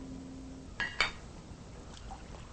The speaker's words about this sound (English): is at the bar pouring a drink.